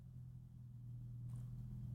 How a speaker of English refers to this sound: What the fuck is that outside? A Formula One car?